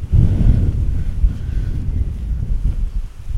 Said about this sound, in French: Il pleut, c'est la tempête.